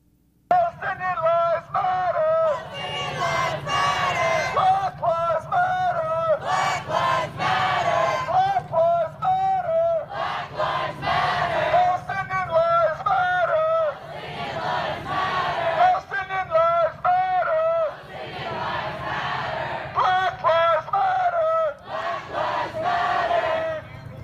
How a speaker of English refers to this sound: Well, soon enough they get back to their main chant, but now they're going to try to incorporate a Palestinian chant as well. Let's listen.